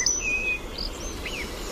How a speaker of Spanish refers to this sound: Petirrojo europeo.